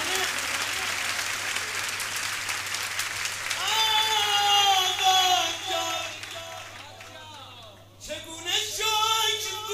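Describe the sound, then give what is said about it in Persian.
A crowd at an evening gathering (majlis) claps in a dense, steady burst of applause for a few seconds, then loud voices chanting or singing take over while clapping carries on underneath. “این مسیح آخر شبه باید مضاعف باشه تو دست زدنه.”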